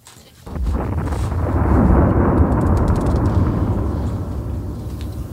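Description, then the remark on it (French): A sudden, loud explosion bursts in and rolls on as a deep, sustained rumbling roar, fading only slightly over several seconds with no voices present. “Quelle belle explosion!”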